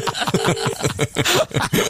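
A steady telephone ringing tone sounds briefly on the line of an on-air radio call to Scott Mills, partly buried under chuckling and voices in the foreground.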